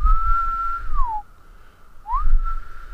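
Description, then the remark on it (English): A periodical cicada chorus at Deep Run Park drones as a steady, shrill, whistle-like tone, dips downward in pitch and drops away for about a second, then slides back up and resumes, fairly loud. “We haven't found a hot spot yet, but boy, you can clearly hear that spaceship B-movie type drone”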